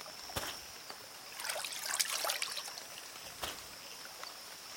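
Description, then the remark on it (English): A babbling brook, feeding a pond in a deep divot in the ground, trickles steadily at a soft, low level, with small splashes and droplet clicks scattered throughout and a slightly busier burst of water in the middle. “a deep divot in the ground that is now a pond, fed by the babbling brook.”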